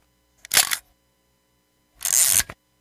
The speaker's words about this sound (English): That was the last picture. Now I got to put new film in the camera.